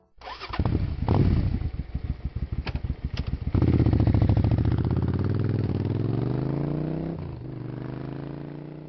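A motorcycle engine at a used-motorcycle shop cranks with a rapid chugging starter for a few seconds, then fires up loudly, revs briefly and settles into a steady idle rumble. No one speaks.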